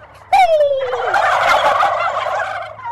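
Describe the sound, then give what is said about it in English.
A man imitates an aggressive male turkey gobbling, a loud burst that opens with a falling yelp and breaks into a rapid, rattling gobble lasting a couple of seconds before trailing off. “Now, what I'm going to do now is I'm going to be an aggressive male and gobble really loudly.”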